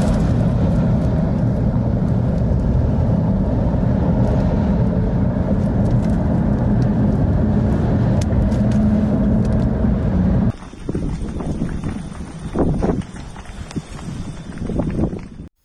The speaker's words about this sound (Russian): Ветрюганище просто ужасный.